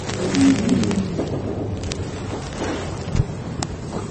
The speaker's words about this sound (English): It's raining.